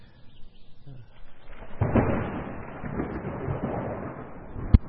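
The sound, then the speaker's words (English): Rolling thunder builds from near-quiet into a long, loud, broad rumble that lingers for several seconds, then a sharp crack breaks through right at the end. “You know, that's what makes thunder roll.”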